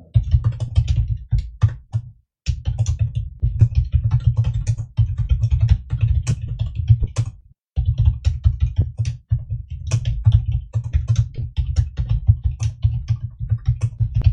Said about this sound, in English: I'm a decent typer in speed, but I pound this keyboard to death.